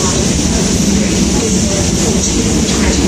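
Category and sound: vehicle, train approaching station platform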